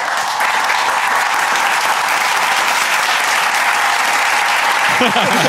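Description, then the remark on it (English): Loud, dense applause from a crowd, steady and unbroken throughout, with a faint voice or cheer rising briefly near the end. “That's why I had everybody else cheer for me.”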